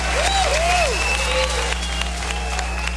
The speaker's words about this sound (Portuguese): Uma salva de palmas. Mandou.